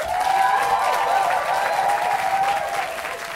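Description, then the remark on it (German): At a poetry slam, the audience claps steadily and loudly throughout to vote for a contestant, dense overlapping applause with a faint hint of cheering, no pauses, fading slightly at the end. “Dann klatscht bitte jetzt!”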